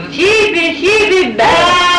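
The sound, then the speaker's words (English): A man calls to sheep with the call "sheepy back" in long, drawn-out, sing-song phrases, loud, with rising and falling pitch and a brief pause before a final sustained call. “And when you're calling sheep, how did you call sheep?”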